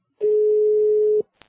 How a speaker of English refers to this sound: I wonder why all the countries have different ringtones. It's very disconcerting. You ring it, you think you're getting an engaged signal. And in fact, it's ringing like this.